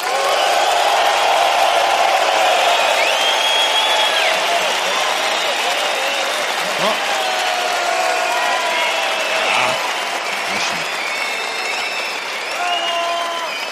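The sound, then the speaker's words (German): A group of men, asked to show fitting applause for the first female performer, applauds steadily for about fourteen seconds, a dense, loud wash of clapping with high whistles and a few whoops rising over it. “Bei drei machen die Herren uns mal vor, was ein angemessener Applaus für die erste Künstlerin wäre.”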